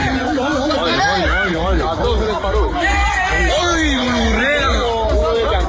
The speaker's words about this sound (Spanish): Ya lo oyen, numerosos vecinos huían corriendo del lugar, otros se peleaban violentamente con patadas, puñetazos y lanzándose todo lo que encontraban a su paso.